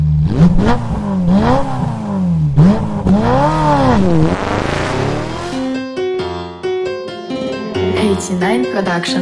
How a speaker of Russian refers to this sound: Заводи тачку, мы поехали.